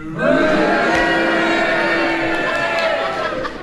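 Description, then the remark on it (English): A studio audience erupts in a loud, sustained mix of cheering and booing, voting on whether Derek Nimmo's challenge was justified, a dense wash of voices holding steady for several seconds before easing off slightly at the end. “I think the cheers just got it.”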